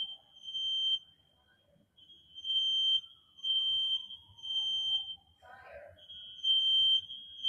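A fire alarm blares a shrill, high-pitched electronic tone in repeated bursts of about a second each, separated by short gaps, over a low murmur of background noise.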